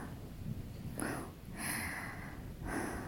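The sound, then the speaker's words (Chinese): Heavy, breathy panting from a woman, with three or four ragged breaths in a row after rushing indoors to escape the rain, the exhales rushing and uneven over faint background noise. “感觉有点喘不过气儿来了。 哎呦喂，你慢点喘气，深呼吸。”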